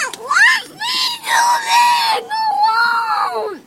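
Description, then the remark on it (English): A little boy screams in a tantrum: loud, shrill, wavering wails in three or four long bursts separated by short gasping breaks, with no other voices. “He started having tantrums. Really big ones.”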